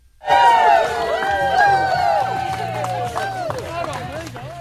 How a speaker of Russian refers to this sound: Радостные аплодисменты и музыка, которые вы только что услышали, это не что иное, как момент, когда премьер-министр Австралии Энтони Альбанезе и его невеста Джоди Хейден идут к алтарю.